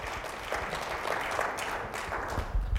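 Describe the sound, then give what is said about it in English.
An audience claps their hands as a clap offering to the Lord, a dense, steady wash of applause from many people for a few seconds with no pause. “Let's give the Lord a good clap offering, man.”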